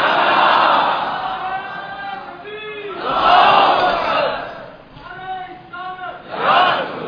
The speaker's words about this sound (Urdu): اچھا ہوا آپ نے نعرہ رسالت لگایا, اس لیے کہ نعرے تکبیر سے مومن اور منافق نہیں سمجھ میں آتے.